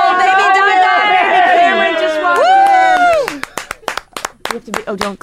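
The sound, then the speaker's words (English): Loud, excited voices ring out, then give way to a few people clapping in an uneven, scattered burst of sharp claps that continues to the end. “Don't clap, be quiet.”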